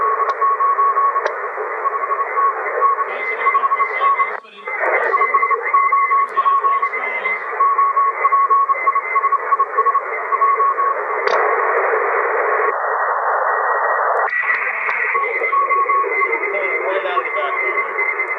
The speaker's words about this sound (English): So not only does it work well on sideband, it also works quite well on CW. And it recognizes the repetitive noises CW and doesn't cancel it out.